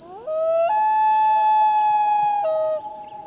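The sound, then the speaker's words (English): A common loon gives a long, haunting wail: the tone slides upward, jumps to a higher note and holds it steadily for about two seconds before breaking off. Nobody speaks. “The call of the common loon is a symbol of the far north.”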